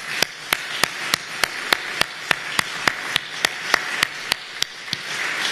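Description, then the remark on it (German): Applause from an audience for a music team: a dense wash of clapping with sharp, evenly spaced claps cutting through at a quick steady beat, fairly loud and with no voices. “So ein großartiges Musikteam, ihr habt mal einen Applaus verdient.”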